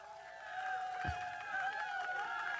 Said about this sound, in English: Oh, the fake applause. That's what we're gonna do.